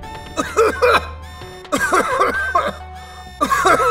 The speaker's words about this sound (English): I took a step towards it, and the smell of rotten eggs filled my nostrils. I coughed loudly.